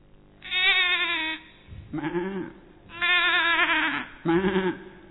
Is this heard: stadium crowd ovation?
no